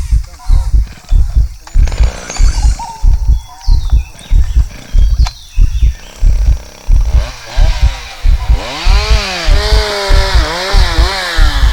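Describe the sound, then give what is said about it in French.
Chainsaws felling trees in a forest: a chainsaw engine sputters in a steady, pulsing rhythm, then revs up and down in loud, rising whines, with no one talking. “Des tronçonneuses ont abattu mes parents en forêt.”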